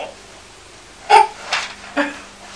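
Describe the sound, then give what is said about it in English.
Three short, breathy coughs in an uneven rhythm, each a brief rasping burst, the first the loudest, with low background hum between them and no talking. “She's coughing.”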